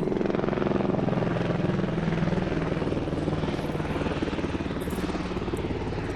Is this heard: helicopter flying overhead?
yes